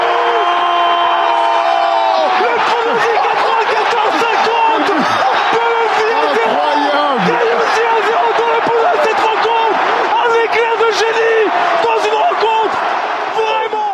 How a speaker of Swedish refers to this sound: Kommentatorerna och publiken gick som ni kunde höra bananas.